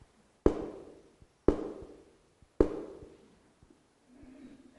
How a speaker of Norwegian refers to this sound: Jesus siger, jeg står for sidste gang for døren og banker.